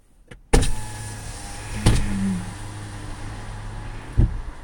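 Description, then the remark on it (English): Car power windows whir as they lower, a steady motor hum with sharp mechanical clunks at the start, midway and end, the whine sitting in a low, even drone. “Maybe we should open the windows.”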